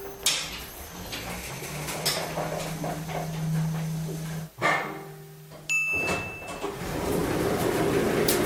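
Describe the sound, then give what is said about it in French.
Steady low mechanical hum of an elevator as someone leaves with their belongings, broken by a door closing with a thud, then a short high chime, a sliding door and ongoing motor rumble. No one speaks. “Hop, là, toute la porte, tac, tac, tac, l'ascenseur”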